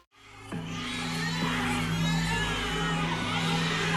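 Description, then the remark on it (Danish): A roomful of babies lying in large transparent plastic boxes crying at once, their overlapping wails forming a dense, steady chorus, with a low hum running underneath and no clear speech. “Rummet er fyldt med babyer i store, gennemsigtige plastikkasser. Mange af børnene græder, andre ligger og sover.”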